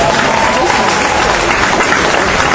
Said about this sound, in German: Super Technik, auch kräftig Applaus für die Technik.